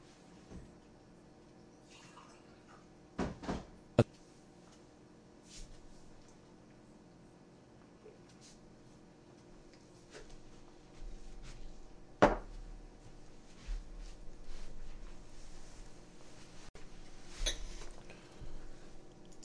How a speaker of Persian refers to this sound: عذر میخوام یه لحظه من یه آبی بخورم.